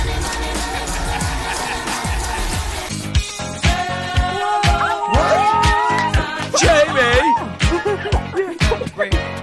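Marker pen lids rubbing together, making a busy run of scratchy clicks followed by squeaky, gliding plastic squeals, with no talking.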